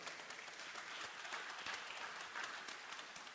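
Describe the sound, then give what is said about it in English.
An audience applauds steadily, a dense wash of many hands clapping at once, holding an even, fairly loud level throughout with no voices on top. “You're not going to clap for this.”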